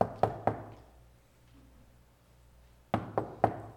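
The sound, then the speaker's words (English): Three sharp knocks on a door, a pause of a couple of seconds, then three more knocks in the same quick rhythm, clear with a slight echo. “The first one, and the Holy Spirit comes knocking at your door, and I have a sign here, and they are the door shutters.”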